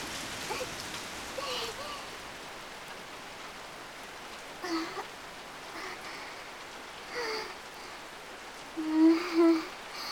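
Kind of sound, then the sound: nature, rain falling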